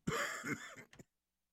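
A throaty cough: a drawn-out raspy hack followed by two short, sharp coughs, heard alone with no talking.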